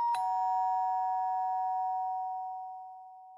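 doorbell ringing

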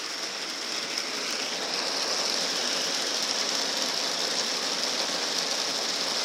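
heavy rain falling

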